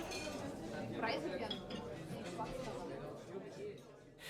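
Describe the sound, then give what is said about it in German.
Glasses clink together in a toast, a few bright chiming taps, set against a busy background of murmuring voices and clatter. “Prost.”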